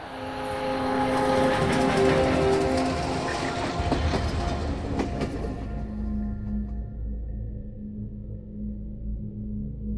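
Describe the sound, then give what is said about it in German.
A heavy train of cattle wagons rumbles past on the rails through the Westerbork camp, heading east, loud at first with rattling, screeching wagons, then fading to a low, steady drone as it moves away. “Jeden Dienstag verlässt ein Zug das Lager Westerbork in Richtung Osten. Wieder Viehwaggons.”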